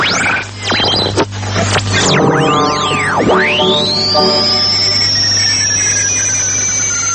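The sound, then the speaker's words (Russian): An electronic radio-art piece by German radio artists, titled "Radio on Radio" and dedicated to the art of radio, mimicking shortwave interference: loud, continuous static with sweeping, swooping whistles that dive and rise in pitch over a steady low hum, with no voices. “Вы слышите не кратковолновый шум и помехи. Это звучит композиция немецких радиохудожников «Радио на радио», посвященная искусству радио.”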